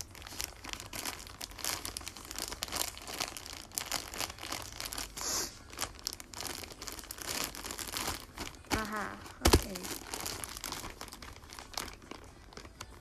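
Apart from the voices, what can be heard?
plastic bag crinkling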